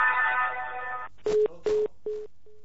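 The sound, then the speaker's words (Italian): A telephone line sounds as a call comes in to the Radio Cooperativa radio show: a steady buzzing tone for about a second, then three short beeps with clicks at their edges, and a faint fading tone at the end. “Sì, abbiamo una telefonata.”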